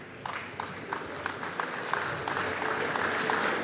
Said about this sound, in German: Zu Recht Applaus. Ich hoffe, es bleibt nicht beim Applaus.